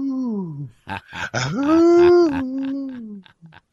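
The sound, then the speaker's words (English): A drawn-out, wavering howl that slides down, breaks into a few choppy yelps, then swells into a long rising wail and trails off in short bursts; it sounds like a human voice imitating a wolf. “we'll come back and howl at the moon with that wolf. Howl at the wolf.”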